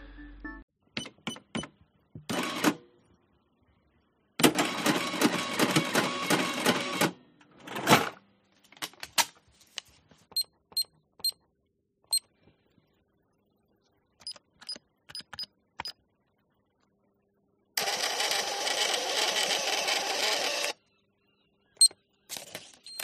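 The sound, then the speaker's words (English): A checkout purchase with a debit or credit card at a payment terminal: scattered clicks and taps as the card code is entered, short electronic beeps, a rattling mechanical whir, then a steady buzzing burst as the receipt prints. Clear, with no voices. “That was a long one that I had to search for, but I really wanted to create that whole visual using the audio of the purchase and the pass of the terminal, and then the putting in of your code for your debit or credit card”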